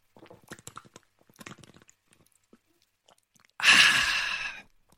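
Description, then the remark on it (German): Someone takes a quick drink from a bottle during a drinking break: a string of soft, irregular gulping clicks, then a brief pause and a loud, breathy, satisfied exhale that lasts about a second. “Prost und ich gönne mir mal ganz kurz eine Pulle.”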